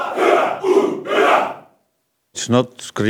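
A choir screams together at full force instead of singing, in three loud, ragged bursts. A brief silence follows, then a single raised voice cuts in.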